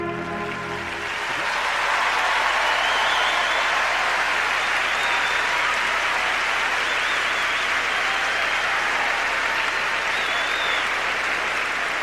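A large crowd at a championship bursts into sustained applause and cheering for the competitor Souria, a dense wall of clapping that swells after the first second and stays loud and steady, with occasional whistles rising above it.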